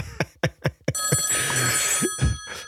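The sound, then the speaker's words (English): A few quick rhythmic thumps give way to a loud, sustained ringing of an old-fashioned telephone bell, bright, continuing to the end with some low knocks underneath. “Answer the phone.”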